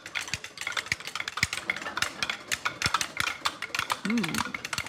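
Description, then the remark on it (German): Wooden Easter clappers, sounded in place of church bells in the days before Easter, rattle in a dense, rapid stream of dry clacks, fairly loud and steady for the whole stretch, with a brief tonal squeal near the end. “Meistens gehen Kinder dann stattdessen um diese Zeit mit Ratschen oder eben diesen Holzklappern durch die Straßen und erinnern so daran.”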